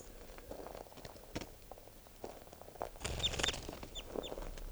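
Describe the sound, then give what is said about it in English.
A captive bird, bird 643, is made to fly and gives several short, high chirping calls in a quick cluster over a burst of fluttering, rustling noise, with scattered clicks and handling sounds before them. No one speaks. “I'm gonna make it fly a little bit and see if I can get calls out of it.”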